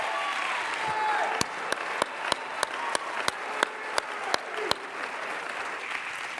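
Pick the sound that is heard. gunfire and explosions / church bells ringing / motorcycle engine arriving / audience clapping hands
audience clapping hands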